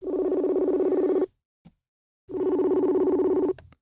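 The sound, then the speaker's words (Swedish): Two long, steady outgoing ringback tones of a phone call to the caller's mother, each lasting over a second and separated by a pause of silence, heard clearly with no one speaking. “Eller ska jag ringa upp henne?”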